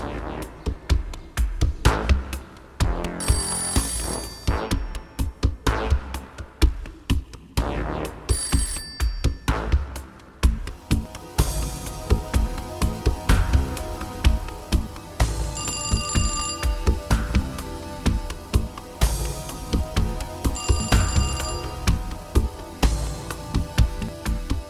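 Many telephones in California ring at once, thousands of phone lines blocked by a chain of calls, in a dense, overlapping clatter of bells and electronic ringtones, with bright repeated trills piling up continuously and loudly, no voices present.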